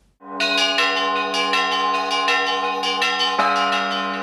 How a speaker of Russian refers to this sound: Колокольный звон – это храмовая музыка, которой сопровождается церковное богослужение. В праздник Пасхи всем желающим дозволяется подняться на колокольню, чтобы прославить воскресшего Спасителя.